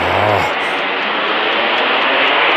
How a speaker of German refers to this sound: Mann, ist das laut bei euch. Das sind die Flugzeuge. Wir wohnen doch direkt in der Einflugschneise.